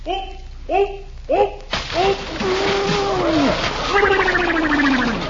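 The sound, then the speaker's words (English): A few short vocal cries, then a big splash as someone jumps into a swimming pool, knocking water out of it, bursts in loudly and churns on as rushing, sloshing water while voices wail and exclaim over it. “Holy cow, he knocked half the water out of the pool.”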